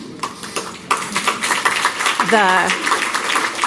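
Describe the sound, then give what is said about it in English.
An audience applauds with dense, steady clapping that grows louder after the first second, and a single voice lets out a brief rising whoop midway through. “I don't know if you're clapping for me to retire or I'm going to take the former.”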